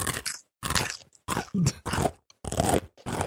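Loud crunching as someone bites into and chews a crisp Doritos chip, in about six dry, crackly bursts separated by brief pauses.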